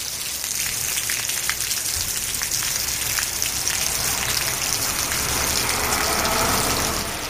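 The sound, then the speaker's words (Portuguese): Heavy rain pours steadily outdoors at the doors of a radio station around 7:30 in the morning, a dense continuous hiss with scattered drops spattering and a low rumble underneath, holding at an even, fairly loud level throughout with no voices. “Era a auga que caía esta mañá ás portas da emisora máis ou menos a iso das 7:30.”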